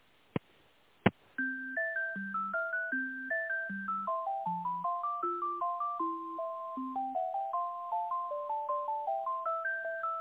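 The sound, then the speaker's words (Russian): Two sharp clicks on a phone line, then a continuous melodic electronic ringtone tune plays steadily, thin and tinny, with a simple bass pattern under the melody and no talking, while a call is being transferred to the chief engineer. “Попробую, сейчас минутку соединю.”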